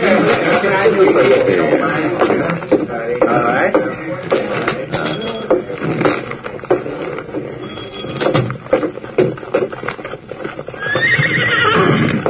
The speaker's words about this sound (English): Here's my horses.